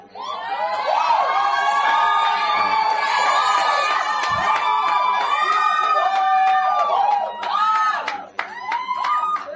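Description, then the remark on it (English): An audience erupts in loud, sustained cheering and excited shouting, many high voices overlapping and whooping without pause, with a few sharp claps breaking through near the end. “I know the reason why you clap, but you didn't hear my full statement.”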